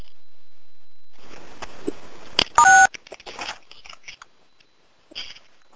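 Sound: telephone keypad dialing tones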